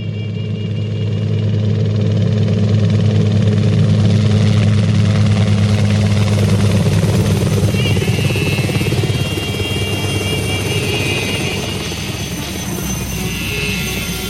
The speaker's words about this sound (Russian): Мы вертушку сюда, с ангары вызываем